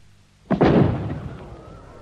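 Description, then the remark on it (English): A single booming firework burst goes off in the evening after a brief quiet, followed by a crackling, rumbling tail that slowly fades. “Fireworks to lighten our evening.”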